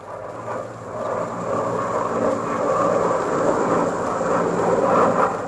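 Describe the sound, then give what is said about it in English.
A Mosquito aircraft, taken up for a flight by Cheshire with McCarthy, drones steadily in flight, its engines a continuous loud rumbling roar with a low throbbing hum that swells slightly toward the end. No one speaks. “But eventually they did, and he wasted no time in taking one up for a flip with McCarthy.”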